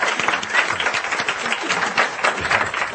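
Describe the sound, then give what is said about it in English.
Steady audience applause for a person standing up to be thanked as names are read out, a dense wash of many hands clapping at an even, sustained loudness for the full three seconds, with no voices standing out above it. “And even if you're embarrassed, if you wouldn't mind standing up so we could applaud you and thank you.”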